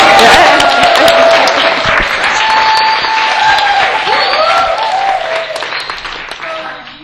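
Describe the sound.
A crowd gives a big applause to God, steady, dense clapping filling the whole stretch and tapering off at the end, with a few voices calling out over it.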